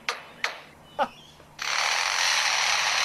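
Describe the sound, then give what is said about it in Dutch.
A lyrebird living next to a construction site mimics hammering: three sharp, separate knocks at an uneven pace, followed by a loud, steady, hissing machine-like drone that continues to the end. “En dus wat je nu gaat horen is enkel en alleen de vogel die het hameren, het zagen, de machines en zo imiteert.”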